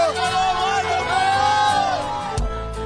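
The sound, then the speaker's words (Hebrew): A large crowd shouts the greeting "Shabbat Shalom, Radio Kol Chai" together in unison, a loud sustained chorus of voices with rising and falling pitch, ending in a sharp thump and low rumble. “תגידו עכשיו רדיו קול חי. שבת שלום רדיו קול חי, חזק. איזה קהל.”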